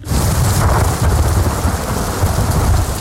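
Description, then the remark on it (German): Steady heavy rain pours down while deep rumbling thunder rolls underneath in a typical summer thunderstorm, loud and continuous throughout, with no voices. “Es knallt und es lärt vom Himmel ab. Ein typisches Sommergewitter halt.”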